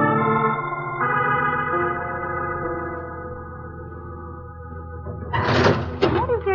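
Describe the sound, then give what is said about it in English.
The drawer of a desk in an office slides open with a brief, loud scraping rattle lasting about a second, following a stretch of sustained tonal music that fades beneath it. “Drawer.”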